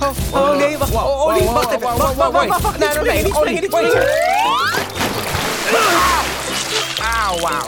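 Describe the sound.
Voices chatter, a rising cartoonish whoosh sweeps upward, then a big, loud splash of water crashes down into an inflatable paddling pool in a garden, splashing water across the whole garden and emptying the pool, sloshing for a moment before talk resumes.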